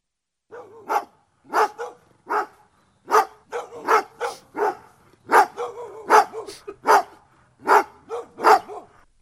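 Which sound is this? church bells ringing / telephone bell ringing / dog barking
dog barking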